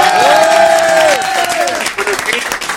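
An audience breaks into dense, steady applause with a loud whooping cheer over the start, the clapping continuing for a few seconds and turning slightly thinner and more scattered toward the end.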